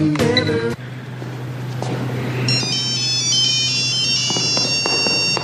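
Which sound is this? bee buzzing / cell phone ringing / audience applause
cell phone ringing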